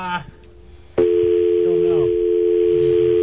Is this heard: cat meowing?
no